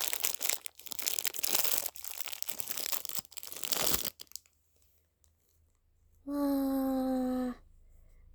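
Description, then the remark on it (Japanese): A crinkly package of a liquid product is torn open in a room with an air conditioner running, with loud, continuous crackling and rustling for several seconds, followed by a pause and then a brief steady, buzzing tone. “開けていきます。”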